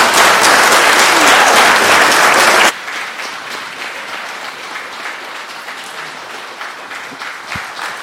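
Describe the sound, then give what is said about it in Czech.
An audience breaks into loud, dense applause that abruptly drops after a few seconds to a softer, scattered patter of clapping that continues to the end, welcoming the youngest children after a blessing in church. “Tak je můžeme všechny přivítat ještě potleskem.”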